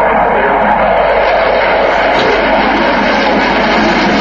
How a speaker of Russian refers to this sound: Открыла выставку пилотажная группа Липецкого центра боевой подготовки ВВС России на тяжелых фронтовых истребителях Су-27. Летчики продемонстрировали фигуры высшего пилотажа, как в одиночку, так и в плотном боевом порядке.